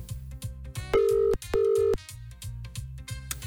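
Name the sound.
telephone ringing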